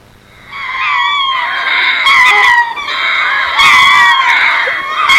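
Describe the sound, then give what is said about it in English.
A group of monkeys calling together in loud, overlapping shrieks and wavering high-pitched cries, sustained for several seconds with a few sharper bursts. “So this is a group of monkeys.”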